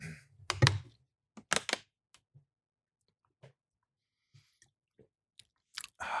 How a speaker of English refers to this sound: Drink a glass of water. Oh, very loud.